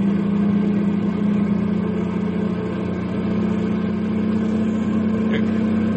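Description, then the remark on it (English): A truck loaded with nitroglycerin, its engine droning steadily as it rolls downhill at dawn toward Landslide, a town at the foot of the mountains: a constant low hum with a rumbling undertone and a faint rising whine, no voices over it. “It's dawn now as Les starts his run downhill.”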